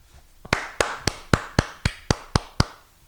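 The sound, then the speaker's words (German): One-handed clapping: about nine sharp, crisp slaps in a quick, steady rhythm, each with a short bright tail, heard alone without any talking. “Ich habe gerade mit einer Hand geklatscht.”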